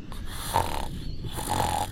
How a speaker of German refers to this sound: Mitten im Satz beginnt es leise zu schnarchen.